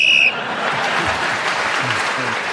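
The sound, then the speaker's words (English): A short, shrill whistle blast on a game show, blown as a contestant was still speaking, cuts in at the start, then quickly gives way to a sustained wash of audience applause with faint murmuring voices underneath. “So … was speaking as the whistle went, gained that extra point.”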